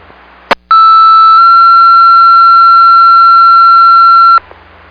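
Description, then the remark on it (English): A South Haven fire station still alarm test tone: one loud, steady electronic tone held for almost four seconds, with a short click just before it and faint radio hiss underneath. “South Haven testing, still alarm tone.”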